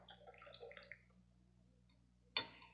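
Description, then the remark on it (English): Tea pours into a cup in a short, gurgling stream with rising bubbly tones for about a second, followed by quiet and then one sharp clink near the end. “Now we pour out the tea and the leaves remain.”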